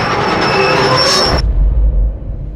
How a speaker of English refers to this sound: He hears the steam whistle of the express and the desperate screeching of brakes.